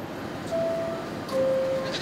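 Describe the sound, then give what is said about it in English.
A goat at the closing doors of an MTA subway train bleats twice in quick succession, two wavering, nasal cries about a second apart, over a low rumbling background noise. “Man, that goat will be pulverized by these powerful doors.”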